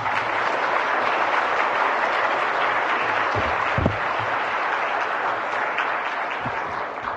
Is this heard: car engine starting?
no